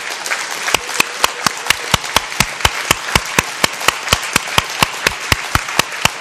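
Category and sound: crowd, standing audience applauding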